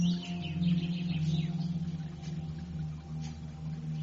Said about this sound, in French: De l'herbe, des oiseaux, une source d'eau, des couleurs flamboyantes, des oiseaux. Chacun avec un piaillement différent.